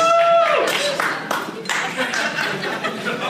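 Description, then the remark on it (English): An audience breaks into a round of applause, a steady, dense wash of many hands clapping for several seconds, with a brief whistle-like tone at the start and some scattered chuckling mixed in. “Yeah, let's also give a round of applause to Sunshine.”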